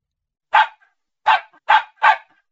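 A puppy barks four times in short, sharp yaps, a single bark followed by a quicker run of three, fairly loud with silence in between.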